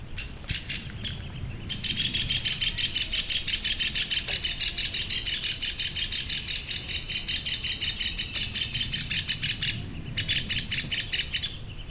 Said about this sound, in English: We are going to listen to the alarm call of the downy woodpecker, which is relatively common. So keep an ear up.